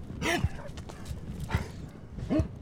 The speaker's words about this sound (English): At the center of the ranch, young colts are milling around the corral as Gator, a 14-year-old blind dog, guards the house